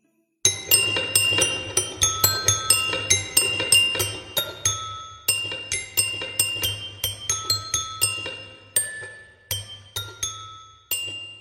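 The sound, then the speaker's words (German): A music box with a cold metal crank, turned tentatively by hand, plinks out a sour, out-of-tune melody in a steady stream of bright, chiming notes over a low hum, pausing briefly before continuing. “Zaghaft dreht sie sie, wobei eine unglaublich verstimmte Melodie ertönt.”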